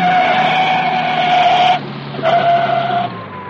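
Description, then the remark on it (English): A car's tires screech in a long, loud, high-pitched squeal as a passenger grabs the emergency brake, break off briefly, then squeal again before the sound fades as the car skids to a stop. “You've got your nerve grabbing my emergency brake.”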